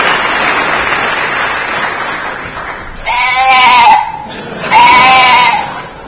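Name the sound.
sheep bleating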